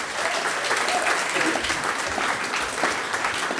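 An audience applauds steadily, a dense wash of many hands clapping at an even, fairly loud level for several seconds without a break.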